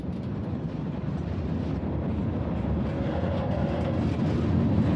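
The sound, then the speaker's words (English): A steady, heavy mechanical rumble of a train, continuous and fairly loud throughout with a low roar and faint rattling texture, no voices present. “Sue watched the last man hop onto the train”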